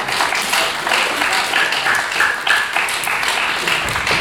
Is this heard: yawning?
no